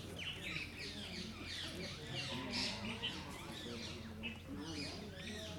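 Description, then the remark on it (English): A dense chorus of many small birds chirping and twittering nonstop in the trees at a temple beside the flowing Jamuna river, overlapping calls over a steady low background hum and faint murmur. “All the trees and birds and Jamuna's flowing by.”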